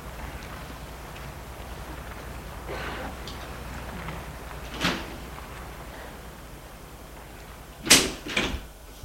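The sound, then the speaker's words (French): The door of a building across a courtyard surrounded by buildings opens against a steady low outdoor hum: a soft click partway through, then a sharper clack and a quick rattle of the latch and door near the end. “Et là, ils vont ouvrir la porte d'un immeuble qui est en face de l'autre.”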